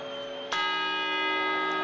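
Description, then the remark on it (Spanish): A large clock tower bell strikes once at midnight, its bright metallic clang ringing out over the lingering hum of a previous stroke and sustaining loudly with rich overtones. “Campanadas.”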